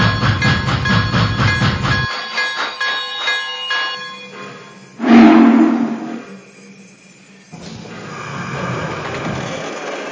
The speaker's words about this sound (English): Now arriving from Los Angeles, on track one, train number 73, the Oakland Heart.